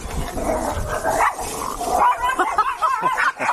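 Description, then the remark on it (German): Two very small dogs bark and yap excitedly over each other beside the Wakenitz river, where people walk their dogs, in a rapid, continuous flurry of high-pitched barks, loud, with no pauses between bursts. “So, was ihr jetzt eben gerade gehört habt, das war ein illegaler Hundekampf, schon fast.”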